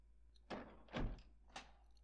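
A heavy temple door is pushed open in three effortful surges, each a loud, rumbling scrape with a dull thud, the middle one strongest. No one speaks.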